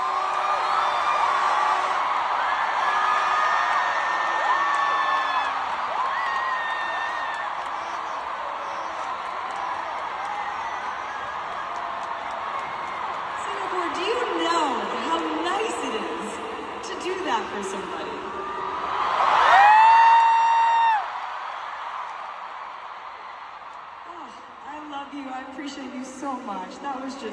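A large concert crowd cheers and screams continuously after a song's bridge finishes, with high whoops cutting through the roar. The noise swells to a louder peak late on as the singer quietly takes in the cheering, then eases a little while the cheering carries on.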